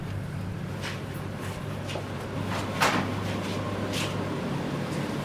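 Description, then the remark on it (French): A large, fridge-like laboratory incubator door being opened: a few soft clicks and rattles build to one sharper clack midway, all over a steady low electrical hum that runs throughout. “Là, vous avez ouvert un gros frigo, c'est ça ? C'est un incubateur.”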